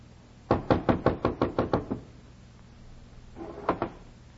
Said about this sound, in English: Come up to a cold door with a long slot at the top. Knocked where it said knock.